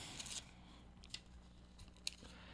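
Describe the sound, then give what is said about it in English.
Paper entry slips for a prize drawing being shuffled and rustled, a few quick crinkly swishes and soft taps spread over a couple of seconds, fairly quiet with no one talking. “Shuffle everybody up here.”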